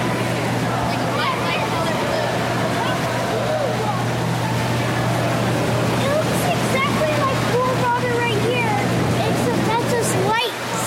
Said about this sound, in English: We're listening to the sounds of the water treatment facility and the very last pool, which is full of light, and it has this pipe that's going round and round, like aerating it.